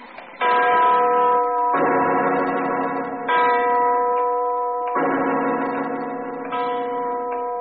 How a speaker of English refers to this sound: It's the clock winding up. That giant bell's gonna... Get down those stairs, fast. It'll strike the giant.